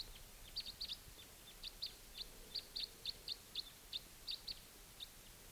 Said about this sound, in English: And I hear a type 2 crossbill coming in